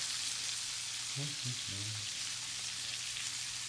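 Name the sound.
bacon frying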